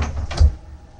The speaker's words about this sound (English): … gets up, muttering to himself in Korean, then slams the door behind him.